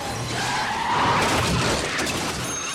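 car skidding

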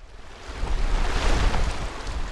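river water flowing

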